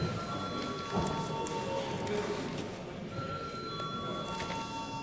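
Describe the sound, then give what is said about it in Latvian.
A continuous electric bell rings for several seconds in the Latvian parliament, called before deputies vote on a proposal: a harsh, rattling clangor with steady high ringing tones, loud and unbroken from start to finish. “Lūdzu zvanu.”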